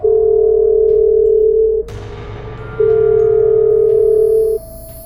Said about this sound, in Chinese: 小心地拿起了话筒，电话可以用。他试着拨了下自己的手机号码。